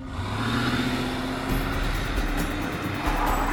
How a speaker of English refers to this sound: They waited outside the house for nearly 7 hours, and then they heard her car starting up and speeding away.